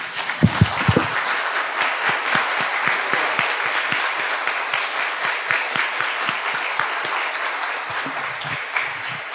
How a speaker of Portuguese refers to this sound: Queremos, neste dia, cumprimentar as mães aqui. Pedir para as mães ficarem em pé. E nós vamos, depois que elas estiverem em pé, dar uma salva de palmas para elas.